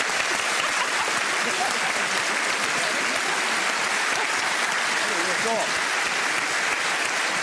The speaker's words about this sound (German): Die Bundeswehr ist da! Ein Applaus für die Bundeswehr!